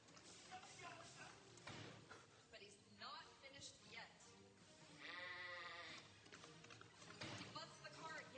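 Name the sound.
sheep bleating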